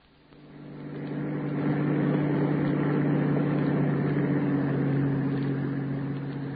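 A bus engine rumbles steadily with a low droning hum, swelling up in the first second and then holding at a constant, fairly loud level throughout, with no voices.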